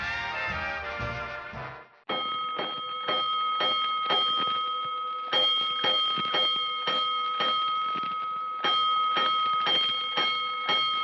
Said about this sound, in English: Five bells. Stand by all stations. Attention, all districts. Five alarm fire, five bells.